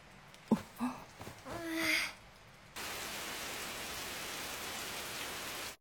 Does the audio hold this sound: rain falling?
yes